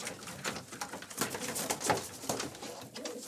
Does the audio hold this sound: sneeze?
no